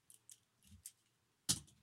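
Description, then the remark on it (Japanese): Metal handcuffs with a keyhole are handled, giving a few light metallic ticks and rattles before one sharper, louder click near the end. No one speaks. “なんかね、手錠鍵穴みたいのあるんですけどね、鍵穴意味ないかも。”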